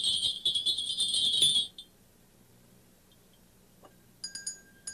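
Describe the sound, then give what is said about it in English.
A burst of bright, rapid jingling from a cluster of sleigh bells shakes for under two seconds, then after a pause a crystal bell rings a few clear, high, sustained tings. “This one is a crystal bell. And this are a lot of bells together. Sound like sleigh bells.”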